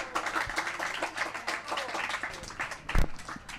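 A crowd applauds steadily, many hands clapping in a dense, crackling patter at moderate loudness, with a few sharper claps standing out and a faint murmur of voices underneath.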